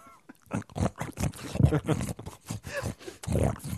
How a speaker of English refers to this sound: But no, apparently they are small dwarf pigs that people like to keep as pets.